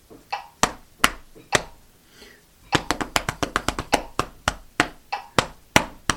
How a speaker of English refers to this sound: Now let me try and clap, tap it one time. Here we go. Three, four.